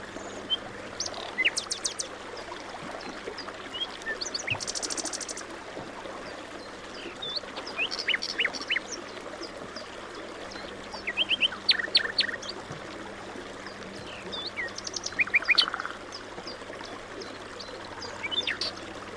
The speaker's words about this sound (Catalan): Ara mateix esteu al costat mateix del riu Ebre. Fa un dia fantàstic, llueix el sol, els ocells ja els podeu escoltar, estan piulant i van passant volant, i us trobeu enmig d'un camp de presseguers preciosos que estan en floració